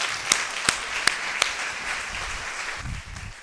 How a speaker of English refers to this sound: Let's clap it up